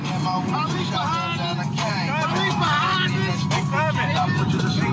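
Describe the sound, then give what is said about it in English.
A steady, loud rumble of car engine and road noise as a suspect's car speeds at about 115 miles an hour past a police car, recorded on dash cam video, with people talking excitedly over it throughout. “Oh, wow, he just blew past the cop.”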